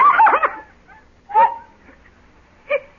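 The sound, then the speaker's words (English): A dog with a white patch on its face, the Kronheims' dog, yelps three times as it runs up to a man, then stops and rolls over: a long strained cry followed by two shorter, higher yelps spaced apart, loud with quiet pauses between. “That dog is running right up to...”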